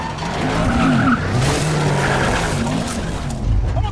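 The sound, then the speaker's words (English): Tires screech and skid loudly over a roaring car engine, a continuous frantic burst like a high-speed chase, with the squeal rising and falling throughout; a car chased by a motorcycle gang, with Tom Cruise at the wheel. “So, we're recording the show in the back of a car with a motorcycle gang chasing us.”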